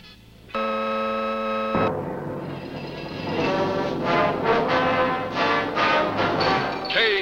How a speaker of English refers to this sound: the tone from the Naval Observatory of the time, exactly 7 o'clock.